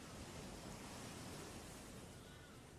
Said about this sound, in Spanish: Escuchemos el mar, esas olas que van y vienen. La libertad de ser que tiene el mar, la gaviota. Y me voy a concentrar siempre dejando de fondo este mar.